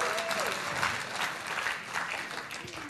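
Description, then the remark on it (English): A church audience claps steadily for about three seconds for the church's Big Year training program, a dense patter of many hands at a fairly even level, with some murmuring voices mixed in. “Good clap. I'm a Big Year clap.”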